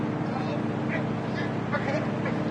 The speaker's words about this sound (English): Hello, I wonder if this is Peters. Yes. Sounds like his boat.